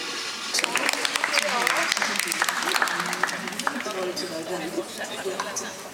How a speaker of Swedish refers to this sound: Förvånade ansikten och dämpade applåder på Malmö stadsbibliotek.